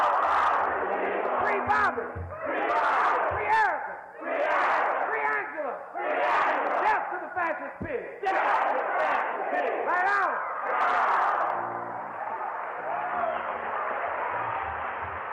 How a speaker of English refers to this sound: the crowd would throw it back. Like when they say all power to the people, the crowd say all power to the people with a force. And when they said death to the fascist pigs, it said death to the fascist pigs. All power to the people!